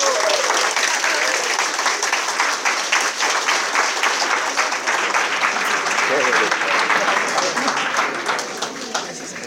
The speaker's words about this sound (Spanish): Bueno, chicos, realmente clave para el desarrollo de su negocio. De hecho, todos han estado ahí apuntando, atentos. Qué bueno, ha sido clave esta información. Otro aplauso, por favor,